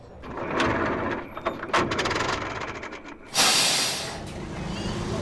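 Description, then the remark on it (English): A bus breaks down: its engine rumbles and clanks with a few sharp knocks, then a sudden loud burst of hissing air cuts in and slowly fades to a steady, softer hiss. “And then the bus breaks down.”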